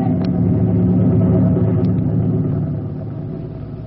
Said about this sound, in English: Yeah, but planes can't stand still in the air, can they? Yeah. Who ever heard of a plane that could... Hey, golly, that one can. Yeah. Hey, it's a helicopter. Fellas, they're looking for us.